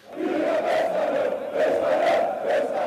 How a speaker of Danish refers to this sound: og der bliver simpelthen råbt så højt i det klip, at lyden også er lidt dårlig i det.